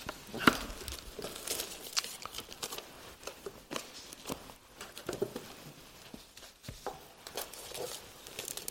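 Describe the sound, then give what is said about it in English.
A piece of paper being rustled and handled during a church service, with soft crinkling bursts and quick scrapes scattered irregularly throughout, fairly quiet and with no one speaking. “Oh, my piece of paper.”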